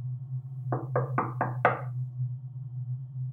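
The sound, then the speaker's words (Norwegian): Five quick, firm knocks on a wooden hotel room door by a journalist who has run up the stairs, the last knock slightly louder, over a steady low hum. “Journalisten løper opp trappene og banker på døra.”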